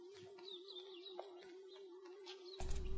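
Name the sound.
bird chirping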